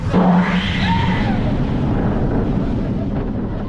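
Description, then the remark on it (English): A roller coaster train launches from its launch track with a sudden, loud roaring rush after pausing and backing up a few feet. High wavering screams rise and fall over the first second, then a steady, heavy rumble continues to the end. “You turn into the launch track and the train pauses, then backs up a few feet and pauses again.”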